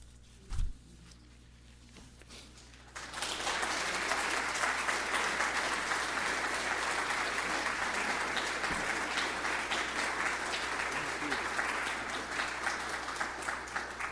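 After a quiet few seconds with a soft thump, an audience bursts into sustained applause, a dense crackle of many hands clapping steadily and loudly until the end.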